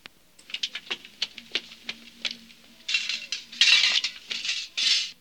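A metal milk pail is dropped in a hurry during the milking of the cow Mimosa, giving a quick run of sharp, ringing clanks and rattles, followed by several louder, rougher scraping bursts; no one speaks.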